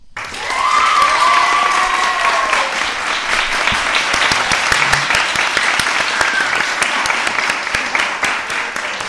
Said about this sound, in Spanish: Un fuerte, ese, con ese fuerte aplauso